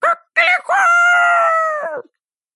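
A rooster crows once, loud: two quick clipped notes followed by a long, drawn-out call that holds steady before dropping away at the end.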